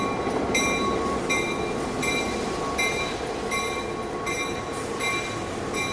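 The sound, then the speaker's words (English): A train on a rail line along the North Shore, on a music excursion, rolls along the rails with a steady, heavy rumble, punctuated by regular metallic clacks and faint high squeals from the wheels at an even rhythm. No one speaks. “Bands are pulling up in an old gravel parking lot underneath the interstate, unloading all of their instruments to the train, 4:30 p.m.”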